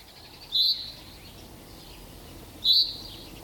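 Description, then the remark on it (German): A bird chirps twice outdoors on a property in Dresden in spring, in the first warm sunshine: two bright, high, short calls about two seconds apart, standing out clearly over a steady soft background hiss. “Die Vögel auf dem Grundstück Unterer Kreuzweg 1 zwitschern aufgeregt in den ersten warmen Sonnenstrahlen.”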